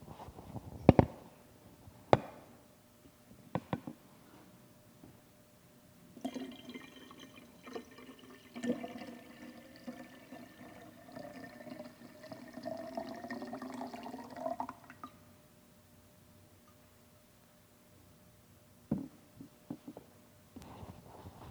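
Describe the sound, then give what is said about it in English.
Water pours steadily into a container for several seconds, a rushing splash whose tone rises as the vessel fills, bracketed by a few sharp clicks and knocks. No one speaks. “Take a look at this water, and remember the disciples in their boat, seeing the impossible, and hearing Jesus say, "Do not be afraid."”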